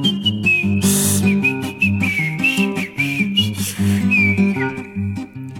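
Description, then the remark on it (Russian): A bright, high whistled melody glides and bends over a busy instrumental accompaniment, staying steady and clear throughout the passage without any voices. “Боку свистел.”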